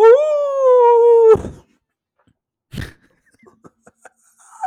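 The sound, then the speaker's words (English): A person imitates a wolf howl with one loud, sustained tone that slowly drifts lower and cuts off abruptly, followed by a couple of breathy bursts and a few faint clicks. “do you want to hear my wolf impression?”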